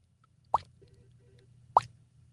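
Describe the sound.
A voice imitates water dripping from a faucet: two hollow, mid-pitched plops about a second and a quarter apart, each sharp and fairly loud over a faint low hum.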